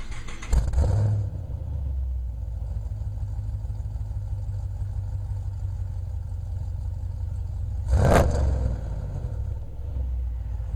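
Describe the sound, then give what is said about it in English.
A car exhaust with Borla long-tube headers burbles at a deep, steady idle, broken by two sharp throttle blips, one right at the start and another near the end. No one speaks. “Yeah, well, you know, I got a video of my exhaust with my Borla long tubes and everything. I put that online, and here's what it sounds like.”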